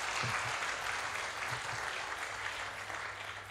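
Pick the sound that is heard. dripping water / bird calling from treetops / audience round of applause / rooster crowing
audience round of applause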